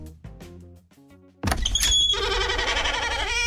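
door opening sound effect

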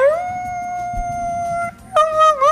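dog howling

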